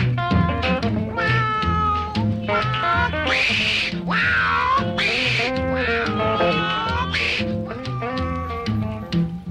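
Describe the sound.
Loud, drawn-out cat meows and yowling caterwauls ring out several times over a busy, steady rhythm-and-blues band track, a 1953 recording made at the Sun Records studio in Memphis, Tennessee, the cries sliding up and down in pitch.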